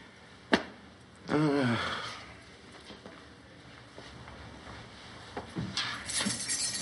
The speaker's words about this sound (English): What's that? Oh, keys to the plane.